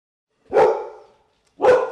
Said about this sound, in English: That's the dogs. I don't know what they're doing. Hold on one second.